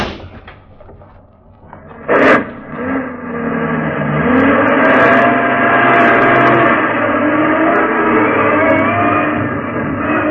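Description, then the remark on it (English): A heavy truck engine rumbles, a single door thuds shut, then the engine revs up and drones steadily as the truck, part of a convoy, pulls through a front gate, loud with no voices. “Just as we caught up with the Jerry convoy, the truck ahead pulled through the front gate.”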